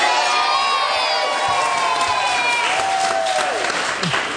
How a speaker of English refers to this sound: The crowd cheered.